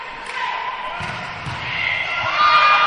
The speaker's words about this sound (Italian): Peccato. Giochiamo su un attacco molto potente, il nostro centrale riesce a... Si era messo in diagonale bene, ma... Sì, però la palla era veramente forte, non è riuscita ad ammortizzare ed è andato a toccare il soffitto.